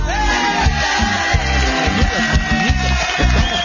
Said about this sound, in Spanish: Ok, entonces esos aplausos no son para mí ni las mañanitas, son para Martita Rocha, que nos escucha allá en la ciudad del amor, hombre, en El Dorado, Jinotega.